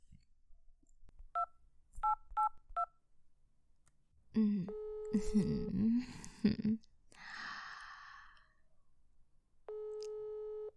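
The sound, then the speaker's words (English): Four short, evenly spaced touch-tone beeps of a telephone number being dialed to call a boss, followed by breathy vocal sounds and a soft rustle, then a steady electronic phone tone at the end. “Just turn off that alarm and call your boss.”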